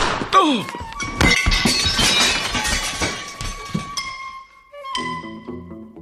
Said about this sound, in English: I didn't expect the bullets to have such impact. I'll clean up the broken dishes.